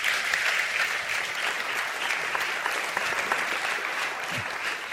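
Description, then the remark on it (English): Sustained applause from a crowd, a dense, steady patter of many hands clapping at an even level for the full five seconds, with no talking. “Another wee round of applause for him.”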